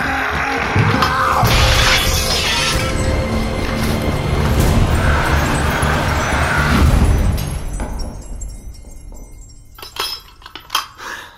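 A loud, sustained crash as a mirror shatters fills the first several seconds, then gives way to scattered tinkling shards and a few sharp clinks as it settles.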